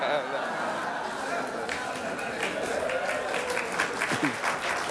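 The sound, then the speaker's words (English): Steady applause from the assembled media fills the whole five seconds, a dense patter of many hands clapping at an even level, with murmuring voices mixed underneath, applauding a joke by Andy Reid. “Oh, round of applause from the assembled media for that one.”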